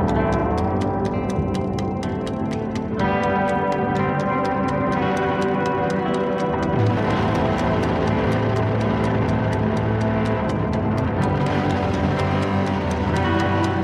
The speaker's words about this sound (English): And I love that it starts with the ticking. You know, it's almost a signature of this record.